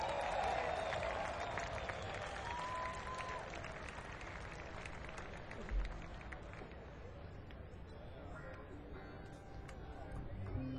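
A crowd applauds a drummer being introduced on a show, an 8-time International Bluegrass Music Association Drummer of the Year, for about ten seconds, a dense wash of clapping that stays fairly even in loudness, with a few cheers and brief tones poking through.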